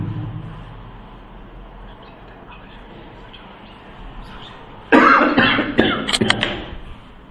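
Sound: coughing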